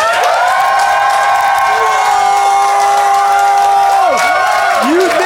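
A loud crowd applauds and cheers continuously to vote on which side of a debate made the best case, with sustained whoops and high-pitched shouts riding over dense clapping for several seconds.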